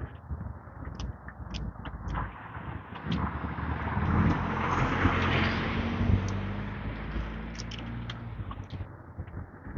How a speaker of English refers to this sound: hearing a lot of trucks, a lot of noise, but still quieter than it would be during the week.